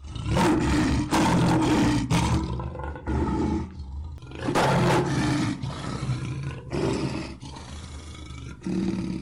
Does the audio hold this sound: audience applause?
no